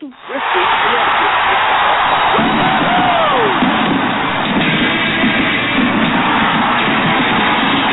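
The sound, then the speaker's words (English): A crowd cheers loudly and steadily for about eight seconds at a mention of Bristol, Connecticut, a dense roar of many voices with a few rising and falling whoops cutting through early on. “I just had to let the crowd get their little acknowledgement.”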